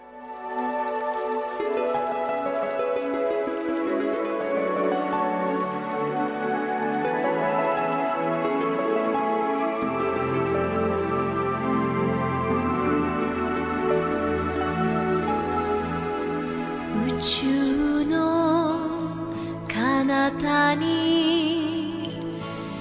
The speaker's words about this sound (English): I'd love to wrap up this first hour with some beautiful water music from our friends in Japan